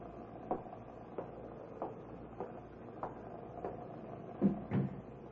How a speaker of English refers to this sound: They go. That's the door into the storeroom.